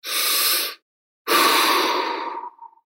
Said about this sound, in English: So take a big deep breath to get us there. Come on, do it.